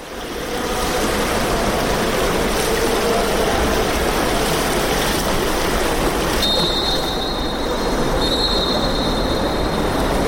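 Steady, echoing wash of the indoor Olympic swimming pool hall in Sarajevo at about half past eight in the morning, a dense rushing hum with no voices, joined midway by a thin high-pitched whine that hangs over the noise.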